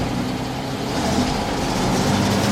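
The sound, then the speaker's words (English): The small engine of a cable-pulling winch runs at a steady idle, a continuous low rumbling drone with a faint rise in intensity toward the end, without voices. “Just switch the engine on, you've got a throttle.”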